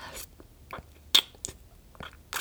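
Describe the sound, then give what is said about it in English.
Wet mouth sounds of oral sex on a penis: a series of soft slurps and smacking clicks at an irregular pace, with one sharper smack in the middle and no talking. “You like looking down at your date slurping on your cock?”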